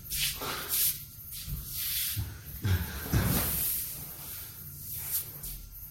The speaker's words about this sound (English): No, it's okay. I wanted to see if this chair would fit through the door.